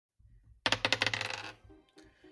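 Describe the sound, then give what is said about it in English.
Dice clatter onto a hard table, rolled for a sleight of hand check, a quick burst of sharp rattling clicks that bounce and settle within a second, fairly loud, followed by faint low background noise. “I'm gonna need you to roll sleight of hand to see if you can pick up a stone without being noticed”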